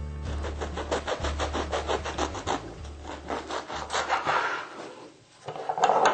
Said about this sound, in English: So I'm going to cut a piece of this awesome bread.